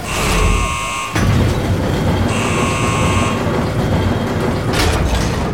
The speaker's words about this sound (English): Attention, please stay clear. Sealing hydroponics pressure doors in 3, 2, 1.